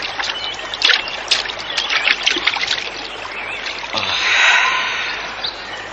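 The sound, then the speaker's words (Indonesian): Water sloshes and splashes in uneven bursts as hands scoop river water to wash a face, with a steady trickle of flowing river water underneath, moderately loud. “Aku akan mencuci muka dulu.”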